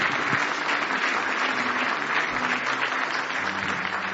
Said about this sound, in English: Give the Lord one more hand clap of praise if you love him.